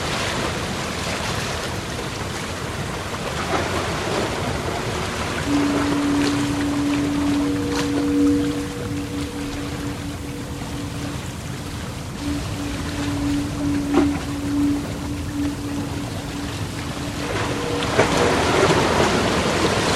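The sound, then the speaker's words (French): Harbor ambience: a steady wash of water and wind with a low, sustained boat tone droning through the middle, plus occasional faint knocks and clanks. There are no voices. “j'aime bien dans mon émission, vu que ça s'appelle Lighthouse Rock, et ben mettre un petit bruitage de port, un petit bruitage voilà de avec des bateaux etc, et pour rappeler un petit peu cette ambiance de phare de la musique.”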